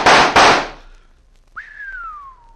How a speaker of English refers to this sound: Smashed the 3 of them before they hit the ground. By thunder, that's what I call shooting.